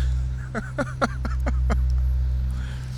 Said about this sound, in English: So they managed to use another load, so this truck is pulling away. And she is going to raise her bed all the way up, dump out the excess asphalt while this other truck backs up into the paver and they continue on.